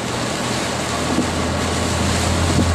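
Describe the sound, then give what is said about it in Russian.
Rain drums steadily on the roof of a car being driven on a road, a dense, continuous patter with a hiss-like wash and a low rumble underneath, with no talking. “То есть это шумит, это дождь по крыше.”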